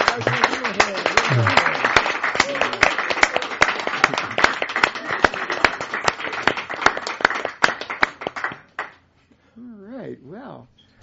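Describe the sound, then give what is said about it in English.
A small studio audience gives a welcoming round of applause to student jazz musicians: a steady, dense wash of clapping for about nine seconds, with voices underneath. It tapers off and a single voice then talks alone. “We have a little audience in the studio tonight, so I think we have enough to give these folks a hearty, welcoming round of applause.”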